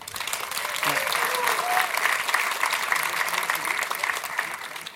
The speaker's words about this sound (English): We are back. A round of applause for our speaker.